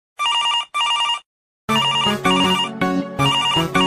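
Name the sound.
phone ringtone ringing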